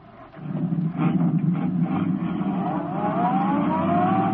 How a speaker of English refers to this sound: Turning onto the road, Britt Reed pressed down on the accelerator. Sedan sped along the concrete after Brinkley's car.